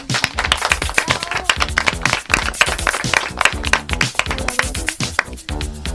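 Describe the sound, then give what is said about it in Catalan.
An audience claps steadily, a dense patter of many hands striking at once, loud and sustained, with some sharper individual claps standing out and no talking over it, welcoming students from the Concepción Arenal school at the Ràdio Aula Maconda 2025 radio marathon in Sant Martí. “I seguim aplaudint”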